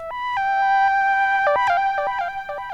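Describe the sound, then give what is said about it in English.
A bright, bell-like synthesizer patch on an OP-1 plays a short melody of sustained tones stepping between pitches, with a little delay giving echoing repeats and a lot of reverb leaving a long wash trailing each note. No voices. “Got a little delay on it.”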